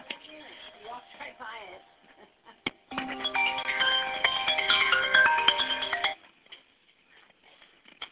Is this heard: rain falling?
no